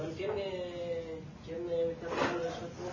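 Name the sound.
sneeze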